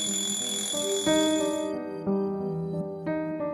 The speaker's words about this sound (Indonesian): 13 Juni 2020. Tepat pukul 5 pagi, aku terbangun karena bunyi alarm.